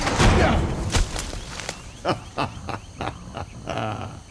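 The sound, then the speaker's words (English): A door slams shut to trap someone inside, amid a rapid series of heavy thuds and bangs, several sharp impacts spaced a fraction of a second apart over a noisy, rumbling background. “Shut the freaking door!”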